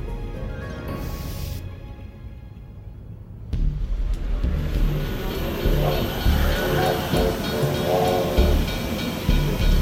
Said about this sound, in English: Just after 7:30 a.m., a train loaded with workers for the day shift is arriving at the fertilizer plant.